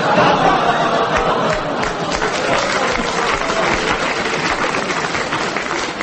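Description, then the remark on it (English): A loud, dense roar of many voices shouting at once in a short, staged sketch battle with renegades, rising and churning without a break for the whole stretch, with scattered sharp clattering bursts. “It was a short, sharp battle.”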